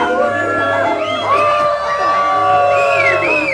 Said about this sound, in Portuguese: O pobre homem soprava, a flauta desafinava. E a criançada vaiava.